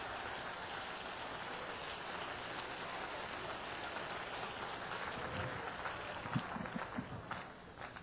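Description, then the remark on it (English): An audience claps again to worship the Lord during a church service, a dense, steady wash of applause that holds evenly throughout, with a few sharper individual claps standing out near the end. “Oh, let's clap again and worship the Lord.”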